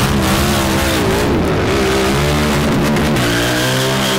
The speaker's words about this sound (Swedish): Klipp till gatan. Föraren står och varvar motorcykeln. Passageraren sitter upp. Motorcykeln åker iväg med vrål.